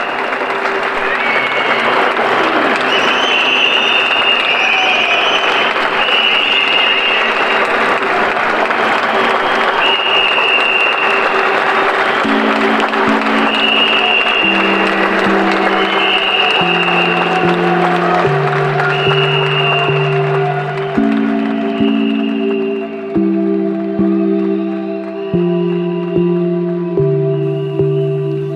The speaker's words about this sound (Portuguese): Um aplauso a todos e grande abraço.